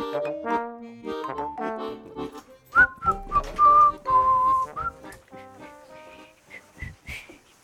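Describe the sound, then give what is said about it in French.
Someone whistles a short melodic tune at the table during Radio Piquet's show La Midinale, the bright notes sliding and wavering clearly for a few seconds amid other soft tonal sounds, with no talking over it. “Alors, qu'est-ce qu'on a comme siffloteur autour de la table?”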